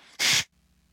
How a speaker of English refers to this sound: And I'm going to not surrender, but blow my nose.